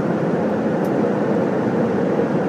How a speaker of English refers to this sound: The ambient sound is the rumble of the aeroplane. To be exact, we are now over the Labrador Sea.